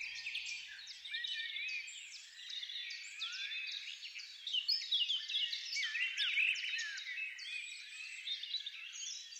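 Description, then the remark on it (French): A dense chorus of birds singing, many overlapping chirps and trills layered into a continuous, busy wash of song at moderate volume, with no talking. “Les oiseaux.”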